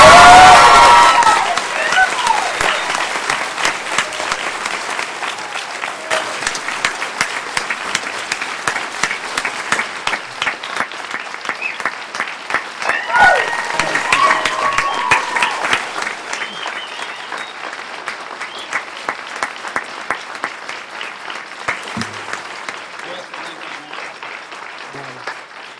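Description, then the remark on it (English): An audience at a Portland city council meeting bursts into sustained, dense clapping with some cheers and whoops near the start, the applause holding steady before gradually thinning and fading over about twenty-five seconds. “When I put down this gavel, you can clap and cheer.”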